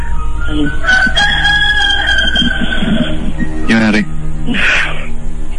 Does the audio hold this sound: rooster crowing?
yes